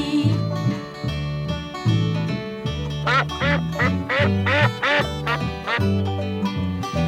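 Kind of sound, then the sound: bird, duck quacking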